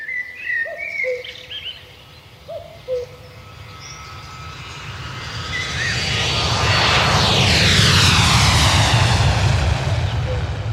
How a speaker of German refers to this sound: Also alle 30 Sekunden kommen Flieger. Morgens um 5 Uhr ist für mich normal die Nacht rum. Ja. Der erste Flieger geht über Niederrad, macht erstmal alles wach.